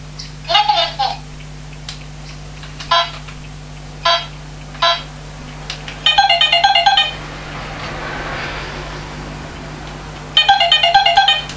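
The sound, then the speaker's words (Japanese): A toy telephone rings in bright electronic bursts, two longer trilling rings after several short beeps, with a child's babble faintly in the background. “もしかして電話に関しては本物とおもちゃの区別がついてないんじゃない？”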